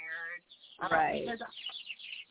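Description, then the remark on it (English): A whole flock of birds flies right past, chirping loudly and busily nearby, overlapping calls forming a dense, continuous chatter with a brief louder burst partway through. “Those birds are going crazy over here.”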